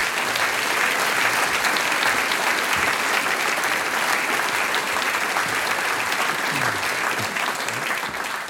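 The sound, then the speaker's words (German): Sustained applause from an audience welcoming the mayor of Weinitzen, Josef Neuhold: a dense, steady wash of many hands clapping at a constant loud level throughout, easing slightly only in the final moment, with no one speaking. “Und all das erzählt uns jetzt der Herr Bürgermeister mit einem großen Applaus, Josef Neuhold.”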